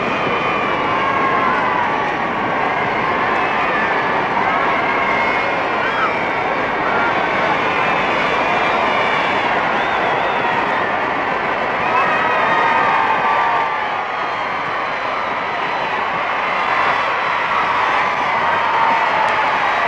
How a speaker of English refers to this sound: And here they come, listen to the crowds acclaiming them. Here they go on their way to their honeymoon. Here they are.